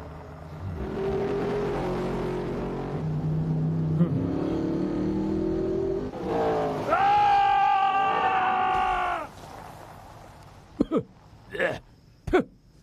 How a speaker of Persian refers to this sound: سیستم ترمزهای تو جدیدن، سر پیچای اینجوری کم میارن. تو بی خودی فقط هی گاز میدی. رانندگی فقط سرعت نیست، دقت از سرعت مهمتره.